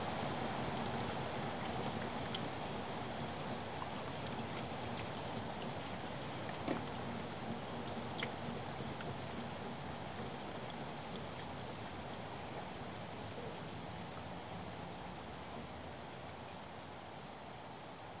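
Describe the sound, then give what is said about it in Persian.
Steady rain pours down in a dense, even hiss, with scattered drops pattering on a surface and no voices. It stays moderately loud throughout without easing. “بعد از 40 شبانه روز باران بند آمد.”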